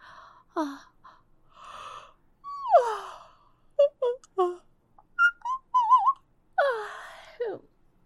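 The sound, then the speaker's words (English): Breathy yawning: two long drawn-out yawns that slide downward in pitch, separated by short squeaky, whimpering vocal sounds and soft exhales, with no speech. “Also, with how you are yawning.”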